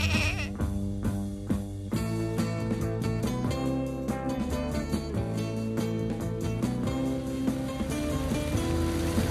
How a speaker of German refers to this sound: Zweiter Versuch. Übers Meer. In einem Kahn mit Außenbordmotor.